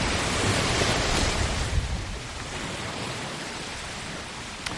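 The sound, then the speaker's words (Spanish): A steady wash of sea surf near Guadalmar, a district on the outskirts of Málaga close to the airport, rolls in with a fuller surge early on, then settles into a softer, continuous hiss of breaking waves, with no voices. “A unos 8 kilómetros, muy cerquita del aeropuerto y casi escuchando las olas del mar, se encuentra Guadalmar, un barrio del extrarradio de Málaga.”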